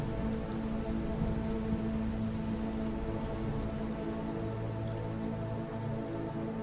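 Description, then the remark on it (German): Steady, dense rain pours down during a storm and patters on a surface in a continuous wash of sound, with a low hum beneath and no voices. “Sorgen und Probleme werden von den strömenden Fluten hinweggetragen und entfernen sich mit dem reißenden Unwetter.”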